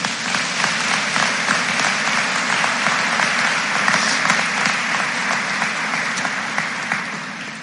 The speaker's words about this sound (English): Please join me in giving these Fort Recovery Alumni Association scholarship winners a round of applause.